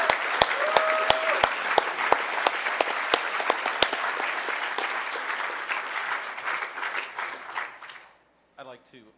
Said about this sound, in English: Without AV, you can't hear what the hell we're saying or see any of the presentations. And I think it really worked flawlessly this time. And you guys deserve an incredible round of applause for that.